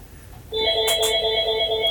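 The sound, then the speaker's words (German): A phone starts ringing abruptly with a bright electronic ringtone, sustained layered tones with a couple of brief bursts on top, steady and fairly loud, no one speaking. “Bei wem hat das denn jetzt geklingelt?”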